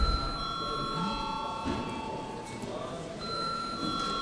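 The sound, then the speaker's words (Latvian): A parliament voting bell rings continuously for several seconds in the Saeima, called for deputies to vote on a bill in its third reading; a steady, shrill electric tone holding without a break over a low background murmur. “Lūdzu, zvanu.”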